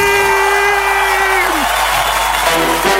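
A crowd applauds and cheers loudly and steadily for about three seconds after birthday wishes, with dense clapping throughout and a few sustained whoops and shouts gliding up and down over it.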